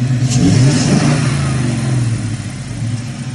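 The 5-liter Coyote V8 engine of a one-of-a-kind Mustang build rumbles steadily with a deep, throaty idle, its low tone wavering slightly as it runs without any talking over it.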